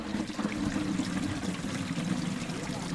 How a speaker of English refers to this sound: And here, where you can hear the sound of running water, right there, you might say they're ahead of schedule. In Ruhira, in southwestern Uganda, this sound and the prospect of running water making its way toward a cluster of villages here is a test